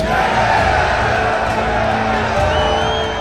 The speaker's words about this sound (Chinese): 霎时间，囚犯们的热情再次被点燃。Michael 和惠斯勒必须要死一个。所有人都欢呼喝彩，迫不及待地想要观赏这场生死大战。